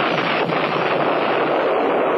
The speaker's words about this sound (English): At noon, Major Shear just finished blockading the entrance of the pass when we heard the first explosion far along the valley leading north.